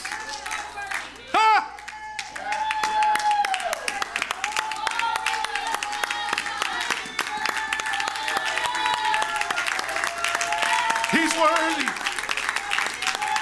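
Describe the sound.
An audience claps loudly and continuously in praise of God, with raised voices cheering and shouting throughout, filling the whole stretch with dense, sustained applause and exuberant calls.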